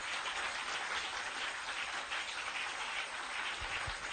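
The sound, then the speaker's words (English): An audience at a church service claps steadily throughout, a dense, continuous wash of many hands applauding at an even loudness with no voices heard over it. “Are you clapping these hands?”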